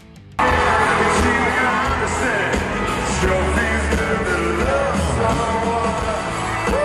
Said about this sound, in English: He's giving her hugs. All the fans are cheering her on, and he's singing with her.